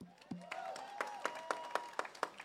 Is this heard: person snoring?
no